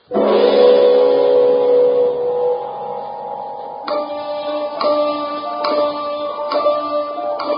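A sustained, resonant musical chord rings out and fades, then a loud, close clock begins ticking steadily, roughly once a second, over a lingering tonal hum.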